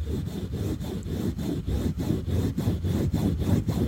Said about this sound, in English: And it is different episodes of sounds done on a mic. So, for example, one sound might be me scratching the mic like this.